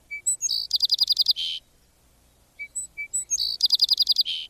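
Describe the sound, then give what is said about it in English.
A song sparrow sings twice, each phrase opening with a few clear introductory notes followed by a rapid, buzzy trill, with a short pause between the two songs. Bright, no voices. “The song is sweet and musical, starting with three bright notes and trilling on from there.”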